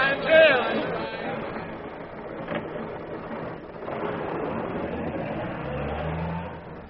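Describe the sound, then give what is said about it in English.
A luxurious limousine's engine rumbles and revs as Uncle Ebenezer drives the bride and groom away to the station. A steady mechanical drone holds for several seconds, with a deeper throaty growl swelling toward the end. “He's taking the bride and the groom to the station in his luxurious limousine.”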